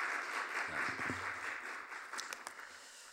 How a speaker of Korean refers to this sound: 오늘 온 찬양 감사합니다. 우리 한번 감사, 우리 격려의 박수 한번 하겠습니다. 감사합니다.